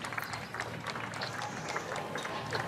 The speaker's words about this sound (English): You can hear the applause from the crowd marking the Queen's 70 years of service